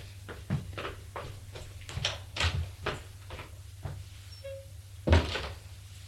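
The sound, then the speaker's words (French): A man who has just put on his dressing gown opens the door to a visitor, heard as a string of soft knocks and shuffling clunks ending in a sharper, louder thud, over a steady low hum with no voices. “Il enfile sa robe de chambre et va ouvrir.”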